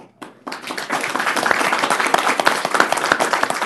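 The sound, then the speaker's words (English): A crowd gathered in Glenwood Springs, Garfield County, applauds the county commissioners steadily, dense overlapping claps starting after a brief quiet moment and holding at a strong, even level with sharp individual claps popping out throughout. “The crowd gathered in Glenwood Springs applauded the commissioners not once, not twice, but three times in a matter of minutes.”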